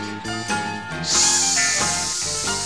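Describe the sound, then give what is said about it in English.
Over light background music, a voice lets out a long, steady 'sss' hiss like a snake, making the sound of the letter S, starting partway in and holding loudly until the end. “Now, come on, all you children, and make that S sound with me.”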